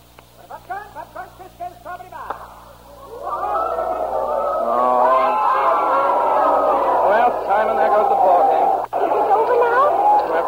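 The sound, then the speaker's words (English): A few scattered shouts from a baseball crowd give way to a loud, sustained roar of cheering that swells after a few seconds and holds steady to the end. “Let's get out of here before you get caught in the crowd.”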